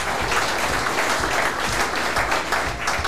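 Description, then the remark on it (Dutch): A crowd applauds steadily for an introduced guest, a dense wash of many hands clapping at an even loudness throughout, with no voices or cheering breaking through. “Geef een groot applaus”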